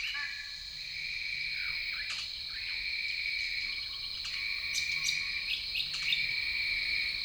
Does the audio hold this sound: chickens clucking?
no